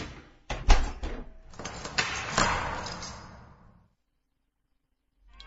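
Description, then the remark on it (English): A heavy security door is worked open and shut, a series of loud metallic clunks and rattles ending in a solid slam that rings out and fades, with no voices. “That's some security door you've got there.”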